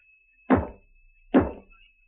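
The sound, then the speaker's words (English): Two dull, solid knocks on a wall, spaced under a second apart, each a short thud with a brief low decay, against a quiet background with a faint steady hum. “What are you banging on the wall for?”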